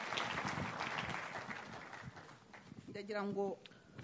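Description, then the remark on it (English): An audience claps their hands for God in a dense, steady burst of applause that gradually fades over a couple of seconds, followed by a man's voice speaking briefly. “And give a hand clap to God.”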